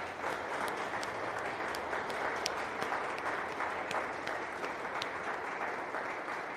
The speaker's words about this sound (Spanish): Y como son los patronos de los terciarios franciscanos, vamos a darles un aplauso a los terciarios franciscanos que están aquí presentes.